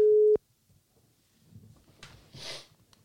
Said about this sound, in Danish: Så nu skal han fandme ringes op. Er han skruet op for? Det er han nu. Det er godt. Ved han, du ringer? Nej.